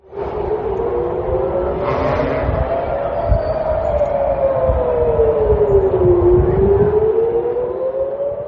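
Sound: air raid sirens wailing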